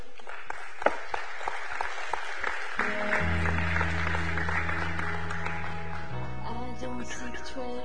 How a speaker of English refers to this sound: So with a big round of applause, come and give.